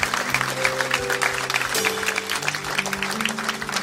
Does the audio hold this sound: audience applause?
yes